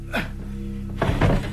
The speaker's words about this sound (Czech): ještě přitáhnu psací stůl.